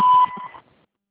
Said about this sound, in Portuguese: ou para, por favor, deixe sua mensagem após o sinal.